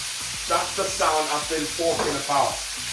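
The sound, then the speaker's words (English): Diced chicken and couscous sizzle steadily in a hot pan, a constant bright crackling hiss, while a person talks over it. “All the couscous is going in there now. Chicken is already diced. I don't even have to dice it up.”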